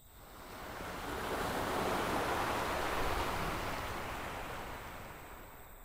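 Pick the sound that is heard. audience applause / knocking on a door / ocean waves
ocean waves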